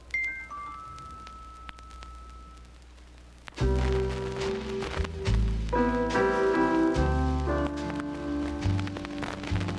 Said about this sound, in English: It's raining.